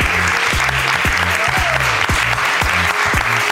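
A crowd applauds steadily for an audience member being introduced on a show, dense clapping filling the whole stretch at a loud, even level, with some low thumping pulses underneath.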